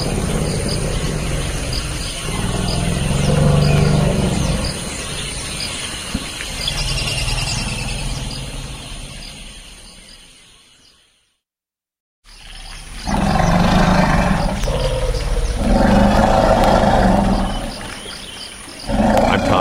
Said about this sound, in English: Behind me, the sound of two forest elephants greeting each other in the Central African Republic, courtesy of Cornell's Elephant Listening Project.